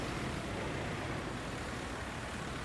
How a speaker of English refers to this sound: I mean, it was checkpoint after checkpoint, this unbelievable crush of cars. It's 4:50 p.m. on Wednesday. And we're in a line of cars as far as the eye can see on the highway going west toward Lvov from Vinnytsia.